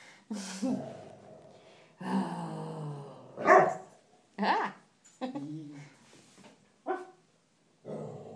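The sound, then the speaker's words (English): A dog named Owen, who has gone onto the table by a warm radiator, growls in a series of loud, uneven bursts, rumbling grumbles broken by sharper, higher barking yelps, with short pauses between them. “Owen's just gone onto the table and is growling.”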